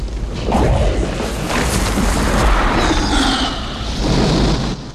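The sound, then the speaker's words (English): A deep, sustained rumbling roar as nearby ground crumbles away into a wide crater that belches out flames, with crashing debris and a rushing, whooshing blast, loud and continuous throughout with swells and no voices. “The ground nearby crumbles away, forming a wide crater which belches out flames.”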